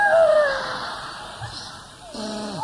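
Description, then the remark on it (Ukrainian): A dog whines in high, wavering tones, with a drawn-out cry at the start and another falling whimper near the end, moderately loud. “Ні, ну ти ходиш, скавучиш, голодна, з мокрою головою, вискочила.”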